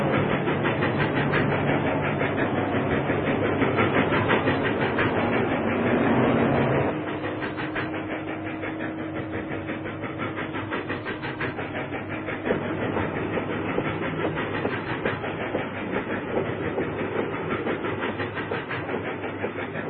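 A train rolls steadily along the rails with a continuous rumbling clickety-clack, fairly loud, easing slightly quieter partway through while the rhythmic clatter carries on without any voices.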